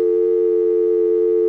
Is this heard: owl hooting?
no